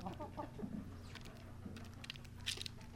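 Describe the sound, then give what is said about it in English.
Chickens cluck softly and continuously while sharp little taps of pecking patter around them, a busy scene of birds feeding on food with a low hum in the background. “Speaking of birds, if you're lucky enough to own your own chickens, you'll recognize the sound of them pecking away at some food, giving them the fuel they need to lay their eggs.”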